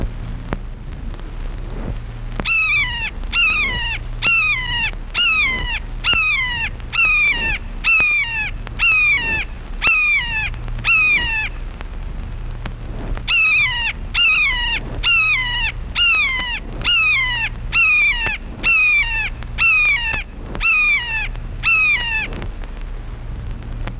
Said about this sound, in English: Red-shouldered hawk.